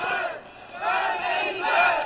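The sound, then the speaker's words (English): A crowd of Bernie Sanders supporters yells and cheers together outside in loud, rising and falling waves, the massed voices swelling into chant-like surges with no single voice standing out. “They're yelling for Bernie outside.”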